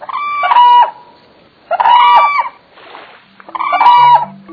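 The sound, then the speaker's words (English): Cranes give three loud, rolling, trumpeting calls at a steady pace, each about a second long with short pauses between them. The calls are strong, and no one speaks. “They fly at first light because the cranes, to protect themselves from predators, stand in the river's shallow waters at night.”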